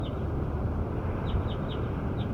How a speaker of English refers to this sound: Stop. Here goes bird 7 again. Bird 7.